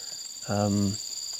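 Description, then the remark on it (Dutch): A fly buzzes for about half a second, a loud droning hum that swells and fades, over a steady high-pitched insect chirr in the background. “Sorry, een vlieg.”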